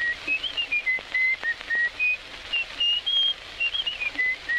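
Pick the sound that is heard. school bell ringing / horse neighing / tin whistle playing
tin whistle playing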